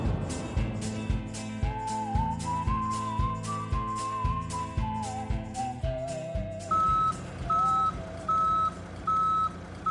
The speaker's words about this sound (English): As I watch my old car load onto a truck, I think about when I first took it to college